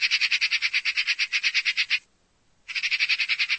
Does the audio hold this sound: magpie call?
yes